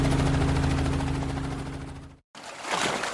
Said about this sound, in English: The helicopter turned hard and flew off towards Parkdale.